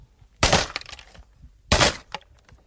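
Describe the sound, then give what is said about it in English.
Two loud, violent smashing blows from a 14-pound sledgehammer striking a tape recorder, each a sharp crack followed by rattling, crunching debris of breaking plastic and metal, with no voices. “please don't smash my tape recorder with a 14-pound sledgehammer.”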